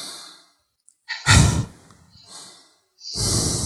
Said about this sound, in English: So try it. Try breathing out forcefully through your mouth. Come on, do it. Try it through your nose then.